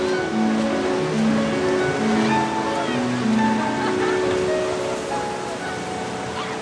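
A steady, continuous wash of ocean surf rolls onto a beach, loud throughout, with faint sustained tones humming beneath the roar of the water.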